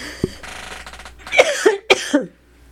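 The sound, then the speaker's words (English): A person coughs in two quick, harsh bursts, each followed by a rougher hacking catch, with no talking and a faint low hum in the background. “As I start coughing again.”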